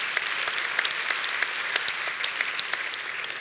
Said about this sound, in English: One more thing that I think all of us should know about that happened in 1891. LifeBridge started. The same year the zipper and basketball was invented, this church started, right? We're going to clap for that.